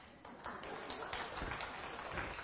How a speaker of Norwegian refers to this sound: Fikk en applaus.